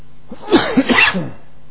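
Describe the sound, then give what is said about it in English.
A short run of three or four harsh, throaty coughs in quick succession, fairly loud and raspy, from a preacher during a church sermon, with no talking around them. “There might be an occasional cough, sorry about that.”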